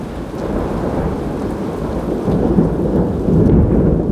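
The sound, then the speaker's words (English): Deep, continuous thunder rumbles through steady rain in Palma, heard from a balcony after lightning, the low roar swelling slightly louder toward the end, with no voices present. “See, now that's thunder.”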